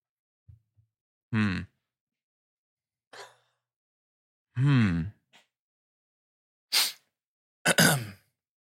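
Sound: sneezing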